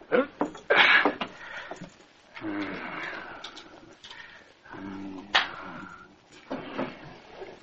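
A desk drawer is pulled open, with a sharp wooden scrape, squeaky creaking as it slides, and a few knocks and rattles over several seconds, with no voices.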